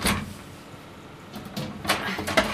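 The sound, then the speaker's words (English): An oven door swings shut with a solid clunk, followed by a couple of lighter knocks and rattles as it settles. “Right, back in the oven. I'll do the door.”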